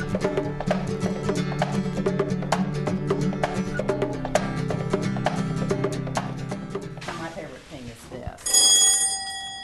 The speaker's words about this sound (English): Isn't that wonderful? I would love to have this on my front door. It's my doorbell.